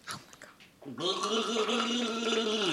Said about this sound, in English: Yeah, you drink it and gargle it.